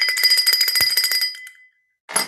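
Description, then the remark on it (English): A small bell rung rapidly over and over, a bright metallic jangle with steady ringing tones that fades out, then a brief burst of ringing returns after a short pause. “I can't stop ringing it. I love the bell.”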